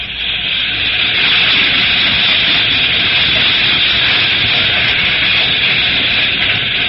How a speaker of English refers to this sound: Here comes the freight.